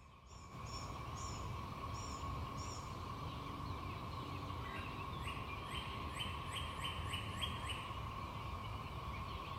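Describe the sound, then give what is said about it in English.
A steady, constant drone of cicadas hums in the background while birds chirp in quick repeated bursts, first a few high notes, then a faster run of chirps. No one speaks. “Hear that hum in the background behind the birds? That constant noise, that's the cicadas.”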